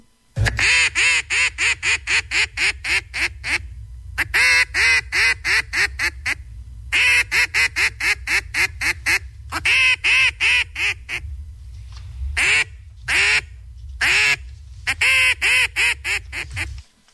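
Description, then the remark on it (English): A loud, rapid duck-calling routine by contestant number one in a duck-calling contest: bursts of fast, rhythmic quacks delivered in rolling series with brief pauses, ending in a few sharp single quacks. A person imitates the duck calls, clear. “Here's contestant number one, duck calling routine.”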